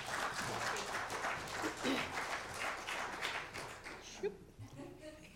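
A crowd applauds steadily, a dense wash of many hands clapping at even loudness for several seconds, with a few brief voices and a short thump near the end as it tapers.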